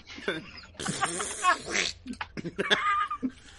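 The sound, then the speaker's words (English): A voice imitates a fart: a few squeaky, sputtering bursts, one sliding upward in pitch like a question, loud, followed by short choppy vocal noises. “You ever rip one of those farts that sounds like there's a question mark at the end of it?”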